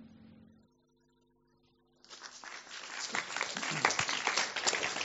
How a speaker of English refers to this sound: Thank you for that rapturous applause.